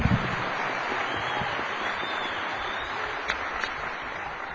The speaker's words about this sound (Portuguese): E também fazer aqui um agradecimento à sensibilidade da Casa por deixar o nosso povo entrar aqui finalmente, né? Palmas.